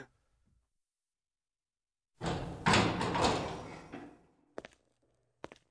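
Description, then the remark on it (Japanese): A gymnasium door swings open with a broad scraping, rattling rush lasting a couple of seconds, followed by two sharp closing clunks, with no voices. “ほら、ドアはちゃんと閉めておくっしょ。”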